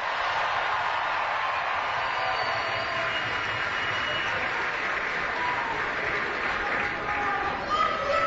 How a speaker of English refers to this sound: Big round of applause for Jimmy Cornelison.